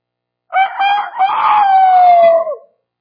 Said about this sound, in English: Just as an aside, have you ever noticed that each rooster has its own crow?